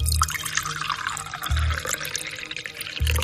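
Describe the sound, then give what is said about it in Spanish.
Water pours and splashes with a bright, trickling sound, broken by low thumps that recur about every second and a half, with no voices: a nurse pouring water into an old man's throat while holding his tongue down with a pen. “Sin mediar muchas palabras, abrió la boca del anciano, le bajó la lengua con un bolígrafo y vertió agua en su garganta.”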